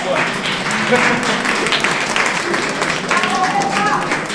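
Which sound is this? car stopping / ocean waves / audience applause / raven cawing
audience applause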